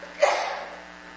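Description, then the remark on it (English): A single sharp sneeze bursts out abruptly, then trails off into a breathy fade. It's moderately loud, with no talking around it. “Bless you.”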